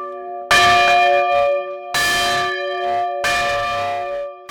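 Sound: large church bell ringing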